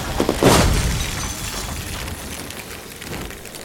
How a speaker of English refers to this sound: Larry's car has flown off the seaside of Pacific Coast Highway onto the beach, rolling over and over while simultaneously discharging a seemingly continuous fusillade of said pistachios that could quite easily be mistaken for machine gun bullets.